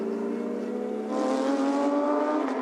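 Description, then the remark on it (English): A race car engine hums steadily, its pitch rising slightly midway as the car rolls back into the pit lane at low speed, with no voices present. “The car's coming back to the pit lane.”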